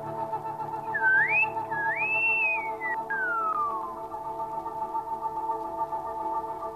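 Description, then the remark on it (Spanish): A short whistle by a man, whistling for the first time in his life: two rising swoops followed by a long falling glide, played over a steady electronic hum and low droning background tones. “… silbó por primera vez en su vida.”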